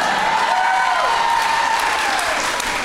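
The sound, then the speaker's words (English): A crowd cheers and claps steadily for about three seconds, a dense wash of applause with a few whoops rising above it, loud throughout before easing slightly at the end. “You don't have to cheer twice.”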